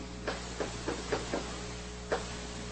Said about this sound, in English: I think somebody's using a weed eater outside of the studio window. I think that's the humming noise you need.